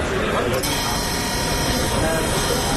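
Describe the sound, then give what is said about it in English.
An old military field telephone rings in a congress center's command center with a loud, continuous metallic rattle that starts a moment in and keeps going without pause, set against a dense, busy background murmur. “So this is a field phone, and I have to answer this.”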